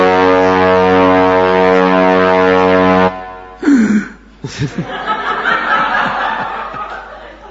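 A single loud, sustained ship's foghorn blast, as ships enter the port of New York on a very foggy day, drones for about three seconds, then cuts off and is followed by people laughing and chuckling.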